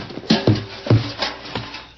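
Someone stumbles into a rain barrel in the dark: five or so hollow, irregular thumps and knocks, the heavier ones with a low boomy ring, fading into quiet at the end.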